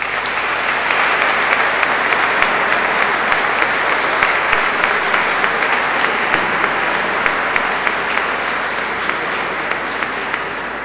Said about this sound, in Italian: Invito i genitori a mostrare i bambini all'assemblea, l'assemblea ad accoglierli con un applauso.